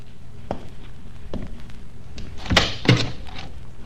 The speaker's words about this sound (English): How do you do? Please close the door and come in.